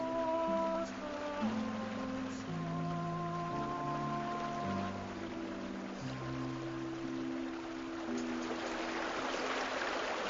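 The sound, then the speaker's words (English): Swift water of a great river rushes steadily around a boat riding low under heavy baggage, a continuous hiss that swells louder near the end, mixed with sustained orchestral music and no talking. “She's too low in the water with all this baggage, and the great river is swift.”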